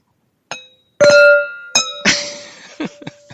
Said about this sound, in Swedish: ska vi ta en skål som vanligt? Mm, jag ska försöka här.